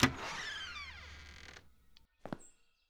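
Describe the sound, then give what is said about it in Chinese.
A door creaks loudly in one long, groaning sweep that slides down in pitch, then goes quiet before a short knock or clunk near the end. “不会关门哦？”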